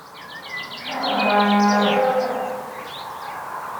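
A single long, drawn-out moo from a dairy cow on a farm swells up and fades over about a second, with small birds chirping and tweeting in the background before and after.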